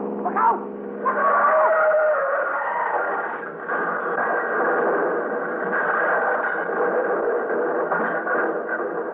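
Tires squeal sharply, then two cars weaving down a street after midnight collide in a loud, sustained crunching clatter that rumbles on for several seconds with a muffled, old-radio quality.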